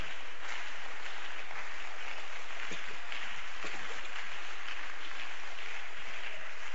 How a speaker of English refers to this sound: Stand to your feet, everybody. And clap your hands for the Lord.